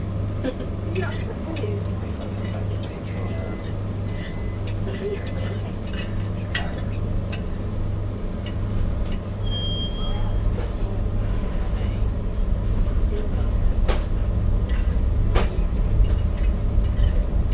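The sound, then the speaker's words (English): A train pulls away from a station, its next stop Glasgow: a steady low engine drone with rumbling that grows louder partway through, scattered clinks and rattles of the carriage, and muffled voices in the background. “Yep, so we're setting off now.”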